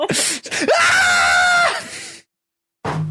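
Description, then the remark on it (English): A voice imitates a woman screaming at the top of her lungs as she slips and holds on with her hands, a loud, drawn-out scream at full volume, rising sharply, holding a strained pitch for about a second, then cutting off into silence before a brief sound at the end. “And then at one point she finally ends up slipping, and she's holding with her hands, and she just screams at the top of her lungs.”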